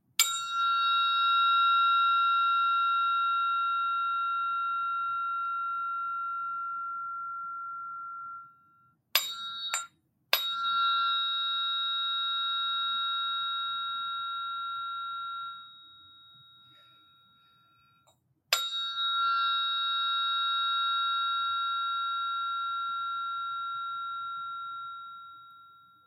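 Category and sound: tuning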